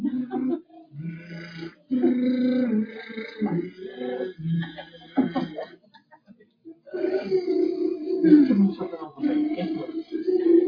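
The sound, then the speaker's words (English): A voice does buzzing lip trills (lip bubbling) as a vocal warm-up exercise, a sputtering pitched hum that slides up and down across several long, steady phrases separated by short pauses for breath. “Have you ever done bubbling? You're bubbling.”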